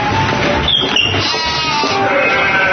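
A goat bleats loudly, one long, wavering, nasal cry that fills the whole moment with no one talking over it.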